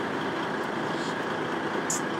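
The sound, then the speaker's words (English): A lorry rumbles past in a steady, unbroken wash of engine and road noise that holds an even loudness throughout, with a brief high hiss near the end and no voices. “You're looking to see another lorry.”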